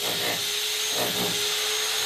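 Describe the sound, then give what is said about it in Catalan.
A steady, loud mechanical whir like a power drill runs continuously, with a high whine and a couple of brief surges in pitch, with no voices, as Segurtec security technicians use hammers, screwdrivers and drills to install security cameras and a digital door peephole. “Gairebé una hora després d'escoltar renous de martells, tornavisos i filaberquins,”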